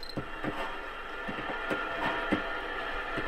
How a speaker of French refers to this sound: C'est un son de scie à ruban métallique. C'est ma colocataire qui fait de la ferraille quoi. Dans le garage elle a cette scie. Et en fait cette scie elle a un petit accro à un endroit. Il y a une dent qui accroche.